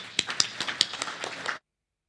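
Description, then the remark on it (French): A crowd applauds those who work on the announcements each week, for about a second and a half, with many overlapping claps forming a dense, crackling patter punctuated by a few sharper snaps, then stopping abruptly into silence. “Et le temps qu'elle vienne, j'aimerais qu'on applaudisse ceux qui travaillent aux annonces chaque semaine.”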